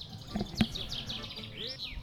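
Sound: birds chirping outdoors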